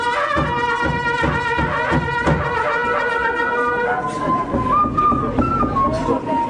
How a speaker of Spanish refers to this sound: Y hemos venido trayendo también nuestras quipas. A ver, ¿dónde están las quipas? Que suenen las quipas. Las bocinas, los tambores, los instrumentos ancestrales que anunciaba la minga, que anunciaba.